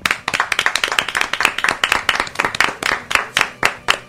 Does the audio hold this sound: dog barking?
no